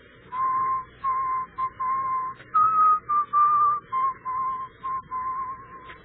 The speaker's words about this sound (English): He whistles most of the time. And you know what he whistles? The funeral march. One that goes like this.